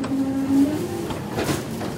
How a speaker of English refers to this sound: The truck then lifts and empties the bins, two at a time, and crushes the garbage.